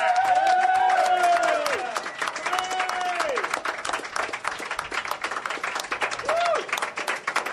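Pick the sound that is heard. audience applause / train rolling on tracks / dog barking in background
audience applause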